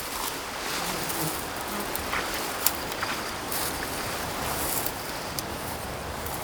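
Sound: strong gusts of wind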